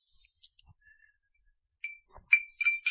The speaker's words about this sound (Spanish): Y por cierto, voy a tocar otra campanilla, ¿eh?